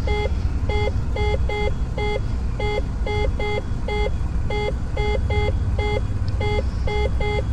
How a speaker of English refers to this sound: When that alarm is about to go off, probably the. Well, definitely when the gear goes down.